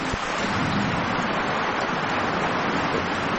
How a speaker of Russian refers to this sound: От макро к микро, ливень, как мы его слышим. А теперь крупнее, по траве хлещет дождь.